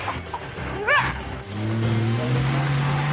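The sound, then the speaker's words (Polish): An off-road vehicle's engine drones steadily and loudly under load as the car climbs uphill, after a short burst of rising, yelp-like tones near the start, with no one talking. “Samochód świetnie radzi sobie ze wspinaczką dzięki mocnemu silnikowi i lekkiej konstrukcji.”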